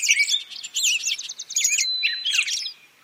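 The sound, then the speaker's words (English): A soundscape reconstructed from bird count data of how a wetland site at Great Meadows National Wildlife Refuge in Sudbury may have sounded 25 years ago: a dense chorus of birdsong, several birds chirping and trilling at once in rapid, overlapping high-pitched phrases and a sustained whistle, bright, with no voices. “Butler took that data and reconstructed what this site may have sounded like 25 years ago.”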